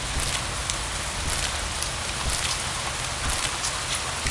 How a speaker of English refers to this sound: That sound of heavy rain.